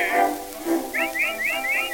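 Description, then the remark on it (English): Someone whistles to call a dog named Rover, a quick series of short, swooping notes repeated in a steady rhythm, moderately loud, with no talking. “I'll bet he hears me whistling.”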